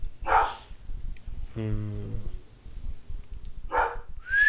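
A dog barks in sharp bursts, a couple of loud yaps with a longer whining, tonal bark in between, against a low background rumble.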